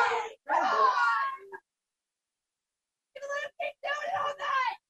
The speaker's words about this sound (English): They are going to let him keep doing it all night, is what some Montauk fans are yelling out. Some unhappy fans here in Montauk, certainly.